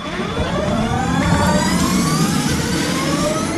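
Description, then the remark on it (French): An electric race car driven by Jean-Éric Vergne speeds past on the circuit during a quarter-hour run, its high-pitched motor whine climbing steadily in pitch over a broad roar of tyres and wind, loud throughout, with no voices. “Jean-Éric Vergne enfile casque et combinaison et part pour un quart d'heure de roulage sur le circuit.”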